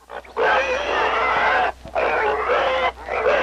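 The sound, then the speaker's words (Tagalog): A very dirty, mud-covered pig being dragged squeals loudly in three long, shrill bursts separated by brief pauses, with rough grunting edges to the cries and no talking. “Inguyod ang rayna ang baboy nga naguli nga durong iwik igpulos lang nang ig maburing.”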